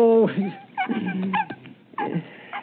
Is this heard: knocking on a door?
no